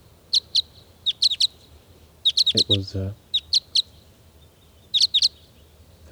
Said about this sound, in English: It's 7:59 a.m. and the birds are really getting excited here.